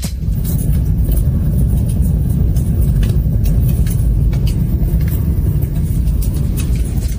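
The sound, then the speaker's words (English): A fireplace soundscape plays through car speakers: scattered crackles and pops over a steady, loud low rumble that fills the whole stretch, with no one talking. “The sound was a fireplace soundscape that was playing through her speakers.”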